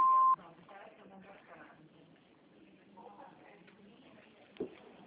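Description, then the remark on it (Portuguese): A single short, loud answering machine beep, following a greeting asking callers to leave their name and phone number, sounds at the very start as a steady pure tone. It is followed by faint, muffled voices and low background noise. “Por favor, deixe seu nome e número de telefone após o BIP para que possamos retornar a sua chamada.”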